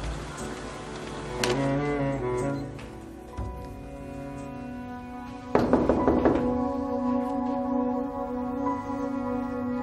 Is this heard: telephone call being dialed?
no